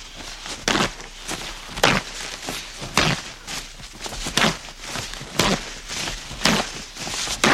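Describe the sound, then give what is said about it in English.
Extra sheets of Z brand paper towels being pulled off a roll in a demonstration: a steady series of short, crisp ripping bursts, roughly one per second, with no voices. “We'll demonstrate how many more towels by pulling off the extra towel, just the extra towels from a roll of Z.”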